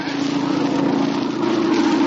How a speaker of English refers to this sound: Listen, Terry, there's a plane.